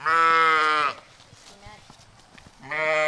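animal, sheep bleating

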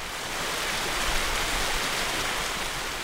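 nature, waterfall

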